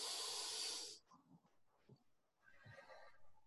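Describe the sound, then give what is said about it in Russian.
A deep, forceful breath drawn sharply in through the nose during a breathing exercise, loud for about a second, then quieter, softer breathing sounds trailing after. “Сделать вдох и выдох через рот. Через нос вдох.”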